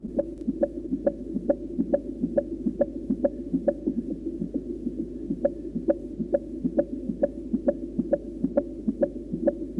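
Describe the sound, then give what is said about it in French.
A fetal heartbeat pulses fast and steady, about two and a half soft whooshing beats per second, over a low continuous hum with no voices. “Écoutez-le battre, ce petit cœur.”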